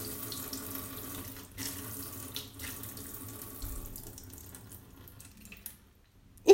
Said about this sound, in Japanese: おしっこして。するよ。ここからおしっこ出るんだ。え、すごいすごい。